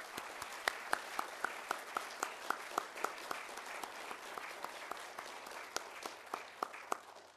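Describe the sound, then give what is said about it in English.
An audience applauds steadily at the start of a session, a big round of applause for Andrew Locke's achievement of climbing all 14 8,000-metre peaks, a dense wash of many hands clapping with a few sharper individual claps popping out in a loose rhythm, sustained at an even level throughout. “So maybe the best way that we can get today underway is with a big round of applause for Andrew Locke and that achievement.”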